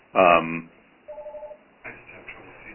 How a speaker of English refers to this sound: it was me trying to push all the buttons on my phone to stop that ringing. There's a technical issue here on my end.